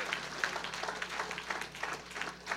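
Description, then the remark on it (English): An audience claps together to give the Lord a hand clap: a dense, steady wash of many hands at a fairly constant level for the whole stretch, with no clear voices over it. “Come on, somebody, give the Lord a hand clap.”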